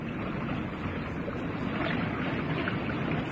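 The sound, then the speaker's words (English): Steady water wash with soft splashing against a small open dinghy with an outboard motor, mixed with light wind noise, continuous throughout with no voices. “Here's the boat. I see. Just an open dinghy with an outboard motor.”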